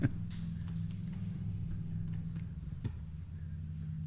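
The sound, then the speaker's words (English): A ticking clock sound effect counts off faint, evenly spaced ticks over a steady low electronic hum, with no one speaking. “that puts you still on the clock.”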